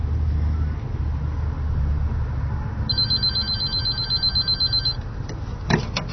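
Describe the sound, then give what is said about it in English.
A phone rings with a rapid, warbling electronic trill for about two seconds, fairly clear over a steady low rumble of background noise, followed by a few faint clicks; a number has just been dialed from a cell phone to test whether it accepts incoming calls. “we're going to go ahead and dial it since I have my cell phone with me, and let's see if it accepts incoming phone calls.”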